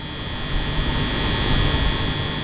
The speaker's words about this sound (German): Dieses metallische Brummen stammt von der Stromversorgung riesiger Magnete. Die mehrere Meter hohen Transformatoren stehen auf dem Gelände des DESI in Hamburg, das zur Helmholtz-Gemeinschaft gehört.